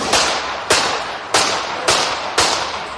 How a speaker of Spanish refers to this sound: el primer ministro eslovaco, Robert Fico, recibió varios disparos al salir de una reunión de gobierno en Jandlova, una ciudad del centro de Eslovaquia. Padlo celkom 5 výstrelov.